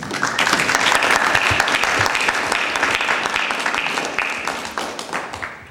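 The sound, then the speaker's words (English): Sustained audience applause at a meeting, recognizing a woman for her tremendous service: a dense crackle of many hands clapping at steady loudness for several seconds before gradually thinning out toward the end. “she can be recognized and applauded for her tremendous service.”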